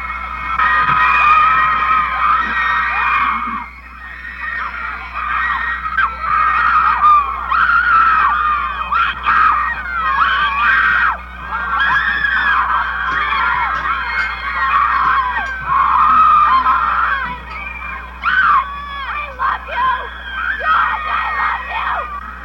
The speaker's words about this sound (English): Young girls shrieked when the long-haired figures appeared briefly in the windows of that hotel.